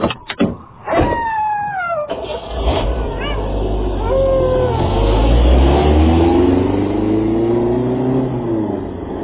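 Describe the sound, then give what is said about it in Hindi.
A car engine, being driven off by a bandit, starts with a few sharp knocks, then revs up steadily and keeps droning loud as the vehicle pulls away, with rising and falling whine over the rumble. “ये कहकर उस डाकू ने उनको बांध दिया और गाड़ी की तरफ चला गया।”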